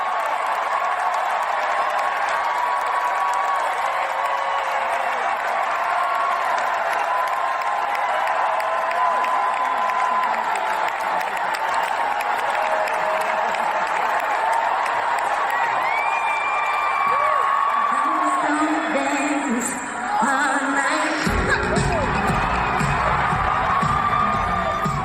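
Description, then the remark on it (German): A live concert crowd at Madison Square Garden in New York roars and cheers continuously as a favourite song begins, a dense wash of shouting and whooping voices that stays loud throughout, with a deeper rumble of music or stomping building in the final few seconds. “wenn dann das Lieblingslied kommt, also das hier zum Beispiel, dann ist einfach Wahnsinn. Und das im Madison Square Garden in New York.”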